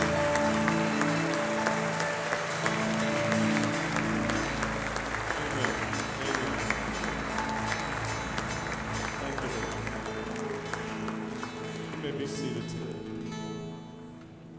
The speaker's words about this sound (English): Can we just stand and can we just applaud God for the greatness in your life and the greatness you recognize Him for today? Just applaud Him like you love Him.